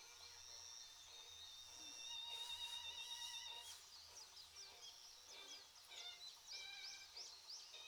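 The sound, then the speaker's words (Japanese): Many birds chirp and sing together outdoors, a dense chorus of overlapping high calls and trills, with a steady low hum of ambient noise beneath. “でも鳥って鳴いてるんですね。”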